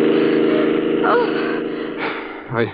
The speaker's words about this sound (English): The car racing down the street. They're holding guns out the window.